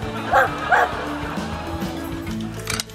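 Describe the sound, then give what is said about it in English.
A small dog gives two quick, high-pitched yipping barks close together near the start, with a faint murmur of voices continuing underneath. “Oh, what a cute dog.”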